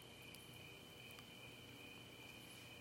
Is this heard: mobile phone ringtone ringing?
no